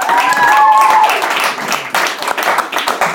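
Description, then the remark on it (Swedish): Audience applause: a dense, steady patter of many hands clapping for about three seconds, with a thin whistling tone over the start, then easing a little toward the end. “en applåd.”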